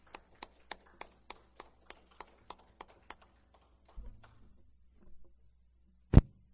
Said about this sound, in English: And I praise God for that. And let's give God a hand clap of praise and thank Him for that.